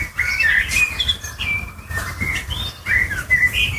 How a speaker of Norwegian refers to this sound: svarttrost. Den sitter på et hustak og filmes til en nabo med mobilen.